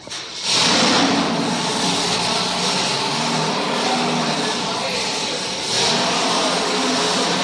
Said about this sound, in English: For his sports car racing, Dan has a Ford-powered Lotus that he is continually preparing for the season. Let's visit Carroll Shelby's shop in Los Angeles, California, for a listen to Dan's engine during a dynamometer run.